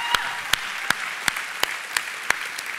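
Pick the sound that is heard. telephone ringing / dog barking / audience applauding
audience applauding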